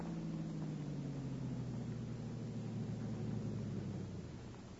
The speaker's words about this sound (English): Yeah. Car coming.